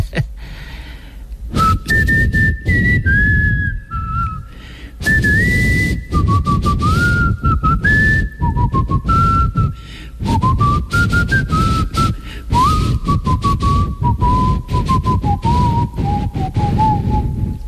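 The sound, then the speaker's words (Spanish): A llanero man whistles a lively pasaje, a folk melody from the Venezuelan plains, clear phrases stepping up and down and gradually drifting lower in pitch, with short pauses between them over a low background rumble. “Cualquier llanero anda silbando, porque bueno, tú montas un pasaje en un caballo.”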